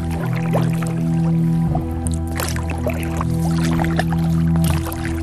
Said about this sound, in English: It's a calm July night in West Cork. The water's like glass, barely a ripple. Just the soft splash of the paddle breaking the stillness. No traffic, no chatter, no distractions.